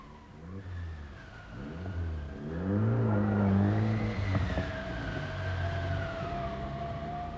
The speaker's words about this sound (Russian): Хотя снега в колее нападало немного, машина часто буксовала. Ее скаты износились настолько, что узорные выпуклости на их поверхности скорее угадывались, чем выступали.